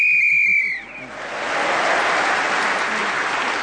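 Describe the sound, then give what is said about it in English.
A single loud, shrill whistle blast lasting just under a second, ending a player's speaking turn in a panel game, immediately followed by a steady wash of audience applause that carries on to the end. “Bill Bailey was then speaking as the whistle went”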